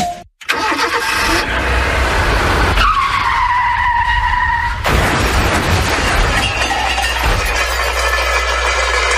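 A car skids with a loud, sustained tire screech over a roaring engine, followed by crashing and shattering impacts, all loud with no talking.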